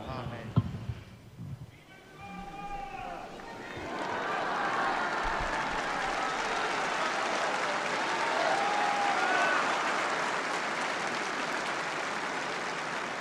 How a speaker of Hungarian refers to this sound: Most sem maradt el a szokásos hát bekiabálás, illetve a tapsvihar a Szentpéter téren, amellyel megköszönik Ferenc pápának a szavait, az ő áldását.